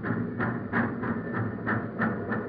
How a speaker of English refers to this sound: Hurry, here comes the passenger train.